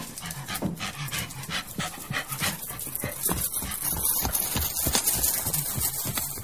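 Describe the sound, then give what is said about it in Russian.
A red dog pants and whimpers as it runs ahead, while a white-grey horse ridden by a woman following behind clip-clops in a steady, brisk rhythm throughout, fairly loud and continuous, with no talking. “Рыжий пес впереди побежал, а жена сзади поехала.”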